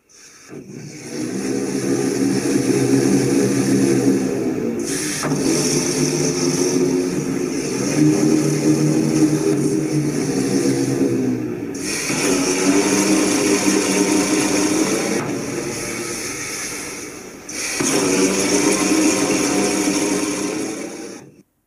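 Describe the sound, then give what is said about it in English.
An explosion organ powered by propane and gasoline, whose explosions force exhaust down its pipes, plays loud, buzzing, engine-like chords that roar in sustained blocks of several seconds, with brief breaks and shifts in pitch between phrases. No one speaks. “The organ itself can be powered by propane and gasoline, and the explosions that force exhaust down the pipes to make the sounds can be regulated. But still, it's an explosion organ.”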